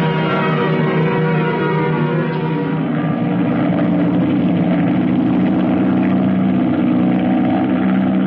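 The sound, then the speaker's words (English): A steady airplane engine drones continuously in the Cavalcade of America radio drama The Sitting Duck, loud, with a thick low hum and harmonic whine holding level throughout, no voices over it. “Let's get this plane back to base.”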